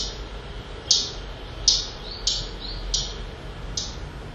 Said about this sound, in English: garden warbler. This is a bird that sounds very much like blackcap. It takes quite a bit of learning to get used to it, but blackcap's so much commoner, but it's always worth following up and trying to see if you can see it.